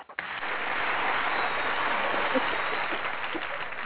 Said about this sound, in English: Everybody give yourself a round of applause. Yay. Yay. Wow.